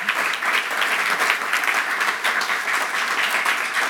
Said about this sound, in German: Dann haben wir zu Gast Christine Hammer, Präsidentin der Salzburger Festspiele. Ganz starken Applaus.